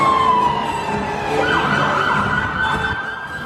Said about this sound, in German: Bis plötzlich ein roter SUV vorbeirast und kurz darauf Einsatzfahrzeuge mit ihren Sirenen die Musik übertönen.